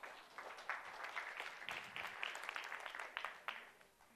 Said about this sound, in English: Thank you very much. If you want to give him applause, you can.